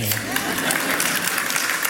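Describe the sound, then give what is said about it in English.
An audience claps steadily, a dense wash of overlapping hand claps at an even loudness throughout, with a faint hint of voice at the start. “Yeah, you can clap.”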